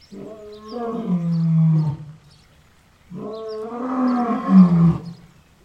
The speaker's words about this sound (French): Le lion.